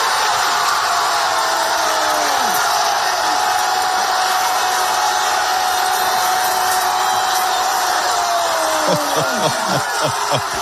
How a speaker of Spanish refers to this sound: Mataró, congregó a 5.000 personas, y escucha, Alberto, cómo vibraron con ese gol de Nico Williams, que era asistencia de su amigo, de su gran amigo, Lamine Yamal.